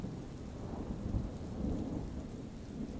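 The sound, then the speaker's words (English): Steady rain hisses continuously while low, rolling thunder rumbles underneath, swelling briefly in places. The storm sounds full, with no voices. “Enjoy these allegedly true scary bedtime stories with the serene sounds of a thunderstorm.”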